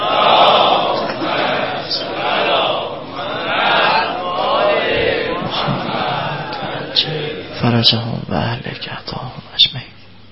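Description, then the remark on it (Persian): A large seated crowd at a religious gathering chants a salawat blessing in unison, its voices swelling in several rhythmic waves over the first half before giving way to a single man speaking into the microphone. “یه صلوات بفرستید.”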